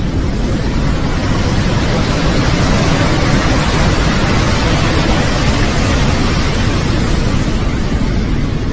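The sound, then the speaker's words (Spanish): A loud, steady roar of surging sea water abruptly rising up, a dense rushing wash that holds constant from start to finish with no voices and no distinct breaks between waves. “Entonces, bruscamente, las aguas del mar parecieron cobrar vida y elevarse, como si se estuvieran poniendo de pie.”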